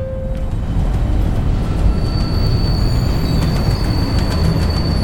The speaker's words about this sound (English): I walk down to the very downtown end of the platform. Stand clear of the closing doors, please. But I don't get on the train.